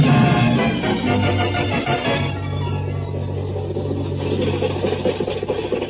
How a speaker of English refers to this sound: Abner, can't you get this truck to go any faster?